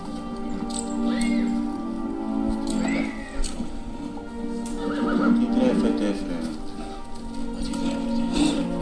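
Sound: horse neighing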